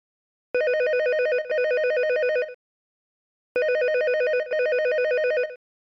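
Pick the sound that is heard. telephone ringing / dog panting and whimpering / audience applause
telephone ringing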